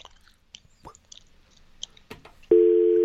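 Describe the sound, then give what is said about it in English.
Over a phone line, a caller to a radio dial-tone impression contest makes scattered mouth clicks and smacks, then a loud, steady, unbroken hum that imitates a telephone dial tone and holds to the end. “It's another one of those dial tone imitators.”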